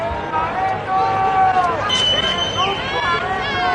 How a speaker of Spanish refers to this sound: con sus padres, con sus abuelos, pues llenaban esos laterales del Paseo de la Castellana, donde un año más, y esto también es tradición, se han repetido los abucheos al presidente del gobierno.